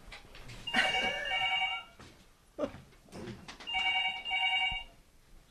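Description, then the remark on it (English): A telephone rings twice, each trilling burst lasting about a second with a pause between, clear, with a faint knock or shuffle in the gap. “My phone runs constantly.”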